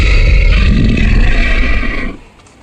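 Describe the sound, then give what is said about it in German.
A deep, rumbling roar from a fiery red dragon sounds alone, loud and sustained for about two seconds with a harsh, growling texture before cutting off into quiet. “Vor mir befindet sich ein Drache.”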